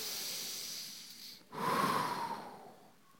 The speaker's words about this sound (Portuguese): É aquele que quando nós estamos inspirando e expirando, nesse processo da respiração, nós estamos proclamando inconscientemente o nome de Deus.